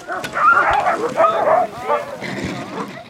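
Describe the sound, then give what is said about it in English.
Thirteen sled dogs of a mushing team bark and yip excitedly in overlapping bursts as the team pulls out a couple minutes before 8 p.m. on a Wednesday night, fairly loud, with faint voices mixed into the noisy outdoor commotion. “pulled out a couple minutes before 8 p.m. Wednesday night with 13 dogs.”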